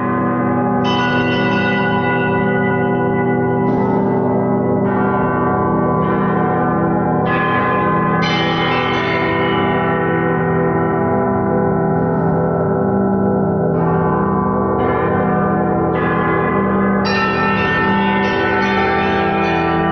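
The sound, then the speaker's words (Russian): Bells ring loudly and steadily for the whole stretch, struck again every second or two so their rich, humming tones overlap and linger, with no talking. “это близкий к колокольному металлу, несколько другого состава, но его можно назвать колокольной бронзой.”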